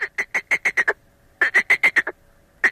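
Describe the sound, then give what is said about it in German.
A male frog calls loudly in rapid bursts of quacking, duck-like croaks, about seven pulses per burst, pausing briefly between series. “Da sind die Froschmännchen ganz schön laut am Quaken.”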